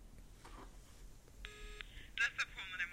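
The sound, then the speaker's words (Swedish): Electronic phone tones over a speakerphone in room 717 as 09 is dialled: a steady buzzy tone, then a cluster of brighter beeping bursts like dialing or ringing, moderately loud against a faint, murmuring background. “Nu ringer det.”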